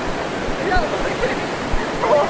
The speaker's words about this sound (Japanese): 光華門という駅の5番出口を出たところにでかい巻貝のオブジェがありまして、そこからね、町の真ん中なんですけどね、人工的に川が流れてる。滝の音聞こえるでしょう。